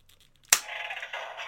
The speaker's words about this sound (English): But when you actually take one of the other legendary lions and you connect it to Black Lion, this is what it sounds like.